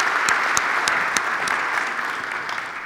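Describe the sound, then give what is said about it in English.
An audience at Brandywine church applauds warmly to welcome a family, steady dense clapping with a few sharper claps standing out, sustained throughout and fading slightly toward the end. “that's the last applause you get till you're 18, so enjoy it”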